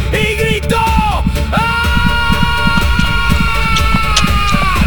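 A man's long, loud scream of terror, breaking and dropping in pitch twice before holding steady, with a steady thudding heartbeat pounding underneath throughout.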